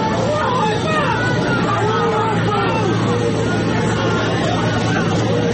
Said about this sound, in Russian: На улице разъяренная толпа.